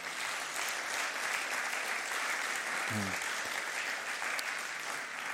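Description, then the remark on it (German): Steady audience applause welcoming a guest onto the stage, a dense wash of many hands clapping at even loudness throughout, with a brief low voiced sound breaking through for a moment midway. “Ja, mal einen herzlichen Applaus bitte.”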